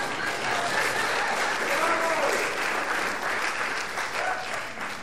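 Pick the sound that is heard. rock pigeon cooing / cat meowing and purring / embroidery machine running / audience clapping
audience clapping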